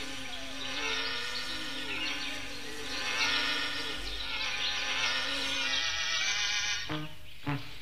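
Several wasps buzz around their nest in a steady, overlapping drone whose pitch wavers and glides, ending abruptly with a couple of sharp knocks; no one speaks.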